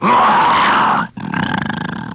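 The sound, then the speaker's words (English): A man's voice imitates a bear growl: a loud, rough roar lasting about a second, a brief break, then a second rumbling, pulsing growl. “He says, can you growl like a bear? So I said, sure. He said, how would it sound? I said, like this.”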